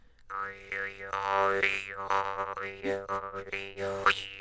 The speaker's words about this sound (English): So you've got, looks like, at least three jaw harps there. Are they in different keys? They are. I've got one in G. I played the D one, which is a very low one. And then I've got one in A. The G is the highest one.